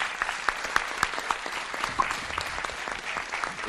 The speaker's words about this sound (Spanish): Gracias por tu testimonio y gracias por venir. Gracias. Un fuerte aplauso.